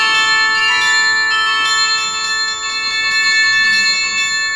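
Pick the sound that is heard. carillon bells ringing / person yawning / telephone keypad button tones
carillon bells ringing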